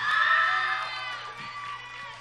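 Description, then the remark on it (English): An audience cheers loudly and steadily for a performer at a live show, a dense wash of shouts and whoops with bright high-pitched voices, sustained for a couple of seconds and easing slightly toward the end. “Come on, give it up one more time”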